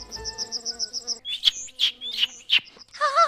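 A quick run of high, even pulses gives way to several sharp, bright bird chirps spaced about half a second apart, ending in a warbling call, fairly clear with no one talking.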